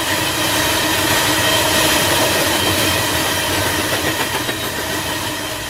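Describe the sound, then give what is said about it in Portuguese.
A 4 km long train rumbles steadily past on a railway that runs near Awá-Guajá and Guajajara indigenous communities. It is loud, a dense continuous roar with faint rhythmic clatter of wheels, filling the whole stretch without pause. “Cada vez que o trem passa, com seus 4 km de extensão, encobre qualquer som por 4 minutos.”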